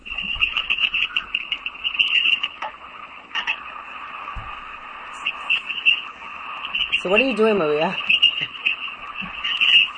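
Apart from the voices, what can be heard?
pet bird whistling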